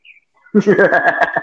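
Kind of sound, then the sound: bird, bird calling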